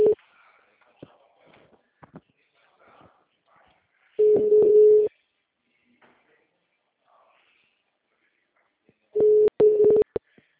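A phone line rings out: a steady, low electronic ringback tone sounds for about a second, pauses several seconds, then repeats, with faint clicks and rustling in the gaps.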